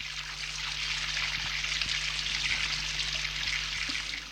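Shower water runs in a steady, even hiss from start to finish, with a faint low hum underneath and a few soft knocks. No one speaks.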